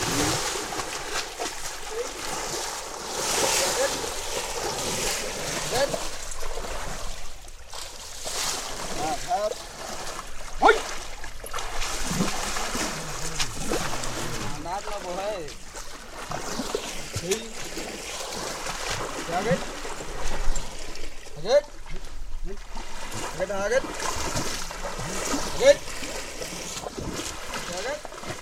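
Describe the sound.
Steady splashing and trickling water as a mahout (elephant handler) washes his elephant in a small pond at the entrance of Kaziranga National Park in Assam, India, with irregular sloshes and drips continuing throughout, and a voice or two heard faintly underneath.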